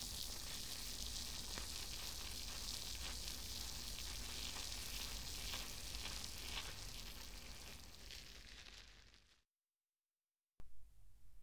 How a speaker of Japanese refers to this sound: 耳元で炭酸の泡が弾けてるの分かりますか？この音を聞いてるだけで気分がすっきりしてきません？炭酸たっぷりな泡を作っている音も楽しんでくださいね。